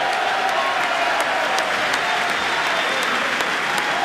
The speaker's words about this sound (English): That getting a cheer now from Republicans in the chamber.